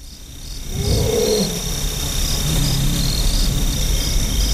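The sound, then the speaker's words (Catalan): A deep, rumbling roar of a tiger in the wild rises near the start, over a steady outdoor backdrop of buzzing insects and faint high-pitched calls that continue after it fades. “S'ha sentit, al començament, també el seu roar.”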